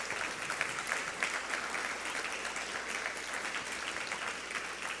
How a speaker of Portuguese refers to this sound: Eu espero que vocês estejam aplaudindo o Senhor Todo-Poderoso.